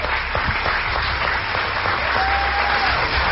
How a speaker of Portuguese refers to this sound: As mulheres vibrando agora.